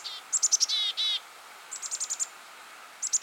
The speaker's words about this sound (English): Those flock mates just need to listen for the number of D's that the chickadees are adding at the end of their calls. If it's more than 20, look out!